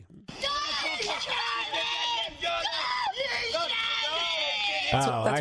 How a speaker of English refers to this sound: Wait, that's not the Pomeranian talking? Oh, my God. Well, I can't understand what she's saying. You shot me. You shot me.